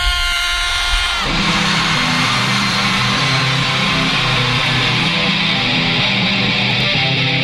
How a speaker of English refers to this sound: Now one really big, loud scream so you can hear it on 19th.